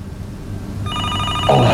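A telephone starts ringing partway through, a shrill, steady multi-tone ring that sustains to the end over a low background rumble, with a brief thump near the finish.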